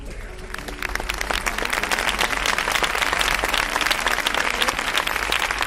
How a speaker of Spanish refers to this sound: Los aplausos en honor de los guardias hacían que incluso los vehículos que bajaban por la calle principal se detuvieran para unirse al homenaje.